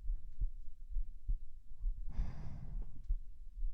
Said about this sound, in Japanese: 今日の心臓の音はわりかしおとなしいかもスタジオで撮ってる時はなんかテンションが高かったのか、心臓の音がすごい鼓動早くて、ちょっと何回も撮り直したりしたんだよね。